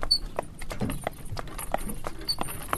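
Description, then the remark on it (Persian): Out-of-breath horses pulling a carriage clop slowly on a hard road climbing uphill toward the village of Sohanak, in a steady, unhurried rhythm of sharp knocking beats, with a faint high jingle now and then and a low rumble underneath. “کم کم اسب‌ها به نفس زدن افتاده به آهستگی حرکت می نمودند.”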